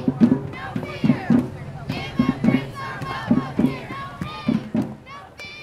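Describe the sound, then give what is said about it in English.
A crowd of hundreds at a Families Belong Together rally, in a field next to the New York State Finger Lakes Welcome Center in Geneva on a hot Saturday morning, chants in unison, shouting a short phrase over and over in a steady, insistent rhythm, loud, lively and energetic. “They chanted and held signs and listened to speakers from local groups working to assist immigrants”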